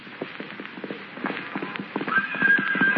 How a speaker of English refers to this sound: Suddenly, he hears the sound of galloping hoofs.